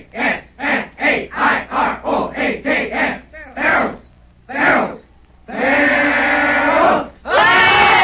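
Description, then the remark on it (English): A crowd chants a Fair Oaks locomotive cheer to end a celebration: a quick run of rhythmic unison shouts, two slower drawn-out calls, then a loud sustained roar of cheering that swells twice. “All right, gang, let's have the locomotive.”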